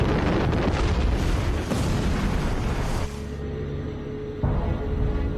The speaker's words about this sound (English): And then you hear the bomb dropping on the water. And then from then on, it's only seconds before it will explode.